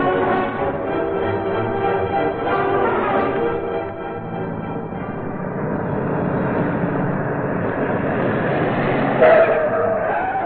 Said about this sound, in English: When the car stopped in front of the Mannheim house, Axford was out of it first.